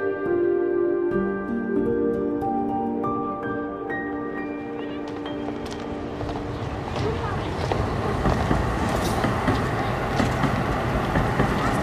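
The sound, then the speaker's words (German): A subway train ride from inside the car: a tonal electric motor whine shifts pitch as it starts off, then gives way to loud, steady rumbling and rattling rail noise, with faint voices underneath. “Sorry, ich hatte jetzt gerade nicht so Bock in der U-Bahn.”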